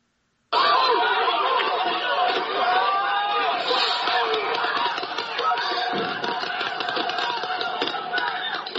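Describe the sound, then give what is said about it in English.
A large protest crowd shouts and taunts police officers in a dense, continuous roar, with scattered sharp bursts of law enforcement firing pepper spray cutting through the din. “You can hear law enforcement firing pepper spray as crowds taunted officers.”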